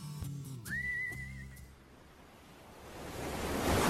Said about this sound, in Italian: Ma guarda quelle onde, Johnny. Guardale!